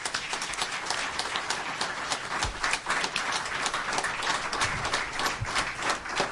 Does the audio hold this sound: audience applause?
yes